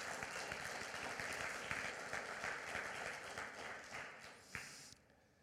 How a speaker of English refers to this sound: Amen? Yeah, let's clap.